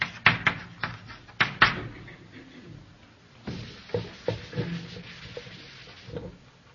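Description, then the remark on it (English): Brisk rubbing strokes of an eraser wiping a written Reformed Baptist position off a board, a few sharp swipes at first, then a longer stretch of scratchy back-and-forth scrubbing, moderately loud with no talking. “Now I'm going to erase their Reformed Baptist position.”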